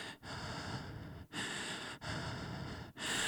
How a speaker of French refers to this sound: Il me colla la peau, trempé de sueur, ma respiration est saccadée.